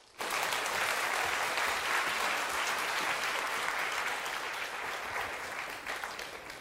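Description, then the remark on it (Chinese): An audience breaks into sustained applause to welcome the pastor who will preach, dense and steady clapping starting abruptly and holding strong for several seconds before easing slightly toward the end, with no voices over it. “让我们热烈掌声欢迎他。”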